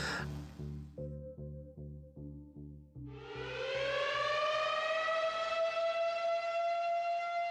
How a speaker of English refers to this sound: We passed the message around to all the families that if you hear an early morning blast, that means get your family on the tracks. Matter of fact, I was the one that would let the siren go.